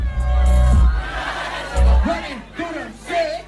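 A loud, dense crowd din at a live after-party performance in Sydney, Australia, with heavy low-end booming and several raised voices shouting and calling out over the steady roar, as the performer stops mid-performance to call out a man in the crowd.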